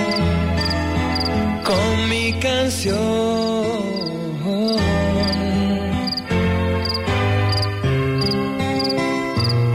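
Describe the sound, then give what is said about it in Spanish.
Steady, regular cricket chirps at nightfall repeat throughout, set against a full, loud musical backing with sliding melodic lines; no speech is present. “Se calla el monte, cantan los grillos.”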